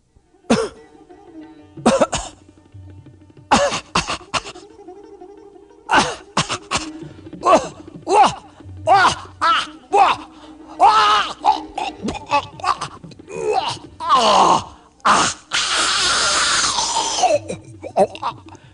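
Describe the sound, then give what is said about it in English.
A voice coughs and chokes in repeated harsh bursts with strained groans between them, ending in a long, rasping breathy hiss. It is a dramatic vocal performance of the demon Agasura choking as Krishna grows bigger inside his throat. “Agasura demon coughed and choked.”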